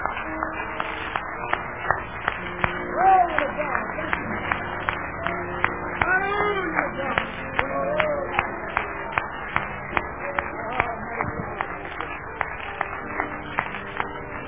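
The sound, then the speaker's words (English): A church audience claps hands for Jesus at a morning service, in a steady, rhythmic beat for the whole stretch, sharp even strikes repeating about twice a second, with faint voices and calls underneath. “Well, let's give Jesus a good hand clap this morning.”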